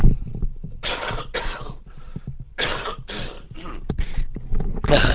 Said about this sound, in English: I'm just going to take the headset off and have a wee cough here.